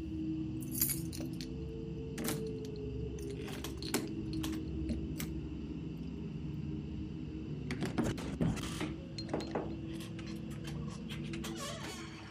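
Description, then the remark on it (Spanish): Keys jangle and clink in scattered bursts as someone's hands search for them in a trouser pocket, the metallic rattling growing busier near the end, over a low steady background hum with no one speaking. “Sus manos sudorosas empiezan a buscar las llaves entre el bolsillo de su pantalón.”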